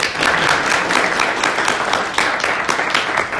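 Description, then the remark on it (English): A crowd at a university meeting applauds steadily after a presentation, many hands clapping in a dense, continuous patter at a fairly loud, even level with no voices standing out. “We can clap.”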